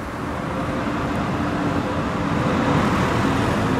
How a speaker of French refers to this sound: Il y a le tramway qui passe.